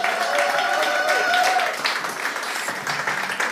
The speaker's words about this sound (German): Jawohl, ihr dürft ihn begrüßen mit einem Applaus.